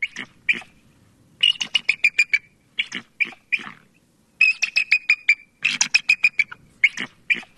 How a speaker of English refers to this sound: Here's the bald eagle from the listening cone of What is Missing.